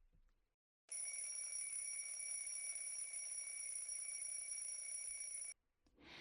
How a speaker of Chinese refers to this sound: 闹钟响了起来